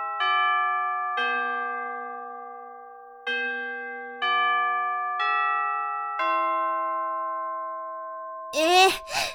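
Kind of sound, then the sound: signal or alarm, school chime ringing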